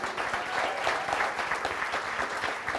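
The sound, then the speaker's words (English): A room full of people claps steadily, a dense wash of overlapping hand claps at moderate volume that holds evenly throughout without a clear peak or fade. “Yeah, round of applause for that.”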